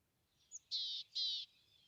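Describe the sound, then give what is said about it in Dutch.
A few sparrows hopping about on the ground chirp in a short burst: a brief high note followed by two sustained, buzzy high-pitched calls, moderately loud, with no talking. “Voor je op de grond huppelen een paar vogeltjes rond. Kijk door de verrekijker naar de musjes.”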